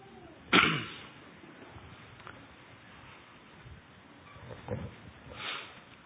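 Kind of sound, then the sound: human body sound, coughing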